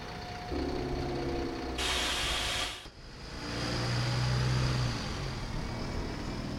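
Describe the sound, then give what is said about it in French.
A bus engine rumbles steadily, then a sharp burst of hissing air from the brakes releases before the low idling drone resumes. No one speaks. “De préférence en bus.”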